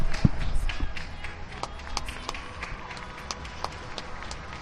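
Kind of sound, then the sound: crowd, neighbourhood applause from balconies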